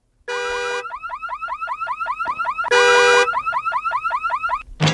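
A car alarm blares as a car is locked, switching between long steady horn-like blasts and a fast run of repeated rising chirps, loud and alone with no voices.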